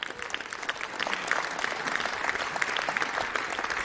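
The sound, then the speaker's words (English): A crowd at the Congress applauds steadily to welcome a speaker, with dense overlapping claps forming a continuous, fairly loud wash of sound that holds even throughout, with no voices standing out. “Give them a welcome applause, please.”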